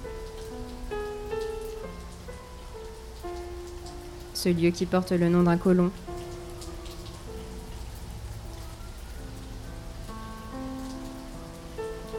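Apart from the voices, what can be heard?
monsoon rain falling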